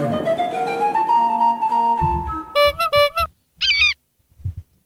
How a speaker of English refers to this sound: That's an eagle, right? It's an eagle flying. I love it.